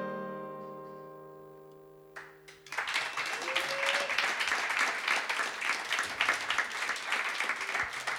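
A sustained musical chord rings out and fades, then a large audience breaks into loud, dense applause that continues steadily to the end, with some voices faintly audible in the crowd.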